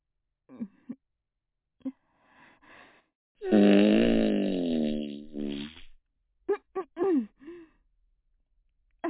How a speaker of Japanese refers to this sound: ごめんね、おばさんおなら出しちゃった。ほら、匂いパタパタ。